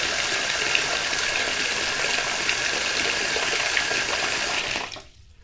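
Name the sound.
water running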